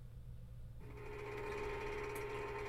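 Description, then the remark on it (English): An old moped engine, after about 30 minutes of frantic kick-starting, catches after a low rumble and settles into a steady, buzzing idle with a whiny harmonic drone that holds to the end. No one speaks. “Alright, the engine finally engaged.”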